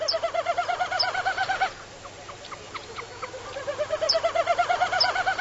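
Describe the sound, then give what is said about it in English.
A male snipe winnowing during his diving courtship display, the wind vibrating his outer tail feathers: two bursts of rapid, hollow, tremulous pulsing, like a fast hoo-hoo-hoo, separated by a brief lull where faint bird chirps are heard. No one speaks. “You aren't likely to see him looping about at first, but when he periodically dives, the wind vibrating his outer tail feathers creates this distinctive winnowing sound.”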